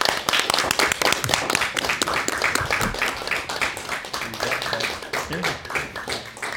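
An audience applauds steadily for several seconds, a dense patter of many hands clapping at a fairly even, moderate loudness with no one speaking over it.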